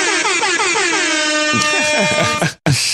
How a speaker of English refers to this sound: We've got to take the awful air horn thing. Yeah. Whatever that is.